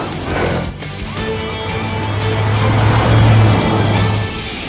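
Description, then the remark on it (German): Engines of a police car and a police quad bike rev and roar as they speed away to a sports park, a steady low motor drone swelling louder over a few seconds before easing off, with no talking. “Genauso wie Ryder, der auf seinem Polizeiquad saß. Und gemeinsam rasten sie los zum Sportpark.”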